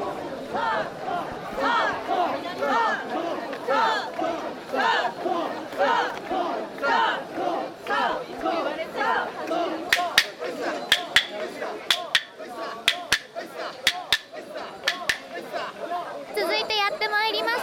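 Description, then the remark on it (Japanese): Women's voices shout together in a steady, rhythmic chant while carrying the Nakamise portable shrine (mikoshi), many women among the bearers wearing pink headbands, with loud repeated bursts over crowd chatter; sharp clap-like cracks punctuate the later half. “よく聞いてみてください。女性の声が大きく聞こえると思います。”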